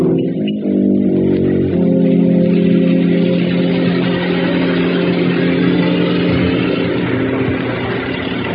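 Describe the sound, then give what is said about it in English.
A car engine runs loudly, its steady hum shifting pitch a couple of times as the vehicle pulls up and idles. No one speaks. “your car, sir.”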